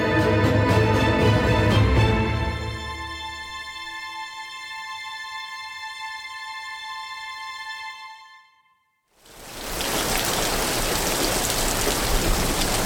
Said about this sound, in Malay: Jelang-jelang tengah malam, hujan turun begitu lebat. Biasanya setelah hujan lebat, cuaca akan menjadi cerah. Namun tidak untuk malam itu. Hujan lebat hanya diusul oleh gerimis panjang.